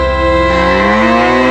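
A cow moos once, a loud, sustained low bellow lasting over a second, its pitch drawing slowly upward as it goes. No voices are heard.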